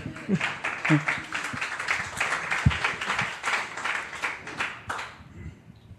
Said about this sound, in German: Applaus, Applaus.